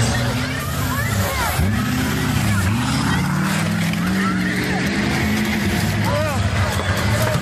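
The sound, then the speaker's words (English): A caravan of trucks flying Trump flags rumbles and revs steadily along a street in Portland, trying to run over civilians crossing the street, low engine drone rising and falling throughout, with loud crowd chatter and shouting mixed underneath. “So that's in Portland, and a whole bunch of trucks with Trump flags and things like that tried to run over some civilians who were crossing the street.”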